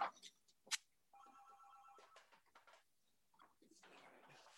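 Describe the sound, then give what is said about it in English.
A telephone rings once with a steady, buzzy electronic tone lasting about a second, surrounded by sharp clicks, handling knocks and soft rustling, with a louder hiss of noise at the end. “And I'm gonna hang up this phone, hang on.”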